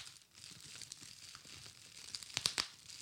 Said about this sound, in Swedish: Men det är ju när du eldar med björkved. Nej, gran. Det knappar sig.